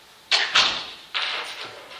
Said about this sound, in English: Do you mind if I shut this door? No, be my guest. There's a lot of noise back there.